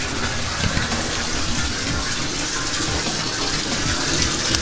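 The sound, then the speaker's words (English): Tap water pours steadily into a bathtub, a continuous rushing splash that stays loud and even throughout, with a low churning of water filling the tub and no voices. “And we might as well start turning off the water while we're at it.”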